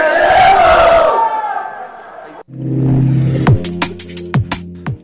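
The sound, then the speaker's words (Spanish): A large crowd of rural teacher-training students of Ayotzinapa shouts protest slogans together during a street demonstration in loud, rhythmic unison, then the chanting cuts off to a steady low drone punctuated by a series of sharp, irregular bangs. “Está este video de la crónica de la manifestación, de las consignas que gritaban los estudiantes, estas consignas tan típicas de los normalistas rurales, esta entonación tan típica al gritar sus consignas,”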